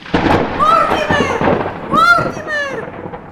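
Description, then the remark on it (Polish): Deep, continuous rumbling of thunder in a thunderstorm outside fills the background while a voice lets out two long, wavering, high-pitched cries over it. “Powinieneś się wstydzić, że możesz leżeć i spać, gdy na dworze taka burza.”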